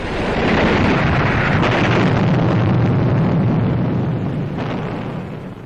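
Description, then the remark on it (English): A flying bomb explodes in a loud, sustained roar, a dense rumbling blast that holds steady for several seconds before easing slightly at the end. No voices. “Almost 2,000 flying bombs fell victim to Allied fighter planes.”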